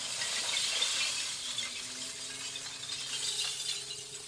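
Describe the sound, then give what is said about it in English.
Crushed glass in greens, blues, browns and clear pours steadily from the raised back door of a dump truck onto an access road being built in Petersburg, a dense, bright cascade of clinking and crunching shards that continues without a break, with a faint engine hum underneath. “Then the back door lifts high off the ground, and a rainbow of glass comes raining down onto the road.”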